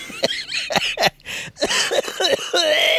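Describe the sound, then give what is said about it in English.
A loud coughing fit: a rapid series of harsh, raspy coughs and throat-clearing bursts with brief gasping pauses between them, no talking. “I hate this cough.”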